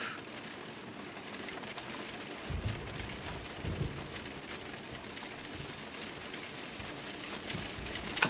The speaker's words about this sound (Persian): اونجا بارون میاد؟ آره حسابی.